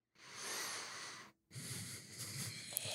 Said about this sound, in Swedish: Och så tänker jag så här, shit, så här, jag andas för högt. Och då blir jag stressad.